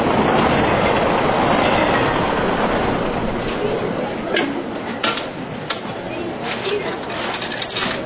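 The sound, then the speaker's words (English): A train rumbles loudly and steadily along the rails, with sharp clacks of wheels over track joints breaking through in the second half and murmuring voices underneath. “I'm about to get on a train.”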